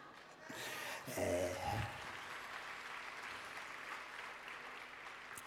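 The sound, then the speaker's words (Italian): An audience applauds steadily, a dense wash of many hands clapping that swells briefly near the start and then holds at an even, moderate level throughout. “Grazie molte, questo applauso lo capisco per la patria.”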